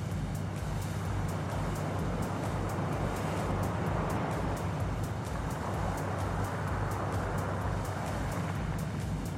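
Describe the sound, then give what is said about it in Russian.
Ships' motors drone steadily with a low hum and rhythmic pulsing, while sea waves wash continuously against the hull outside, muffled, fairly loud. “И обращаю ваше внимание, что сейчас все звуки стали слышны уже в таком приглушенном виде, но море все равно остается слышно за бортом, его волны все равно остаются звучать даже при работе моторов кораблей.”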